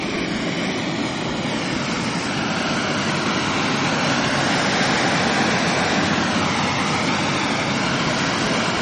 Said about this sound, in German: An anderen Stellen entweicht zischend das Gas aus der Erde.